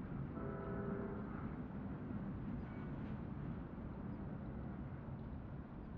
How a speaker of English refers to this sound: Oh, look, way out there. See that movement against the hill? Yeah, what is that? It's a train. Listen.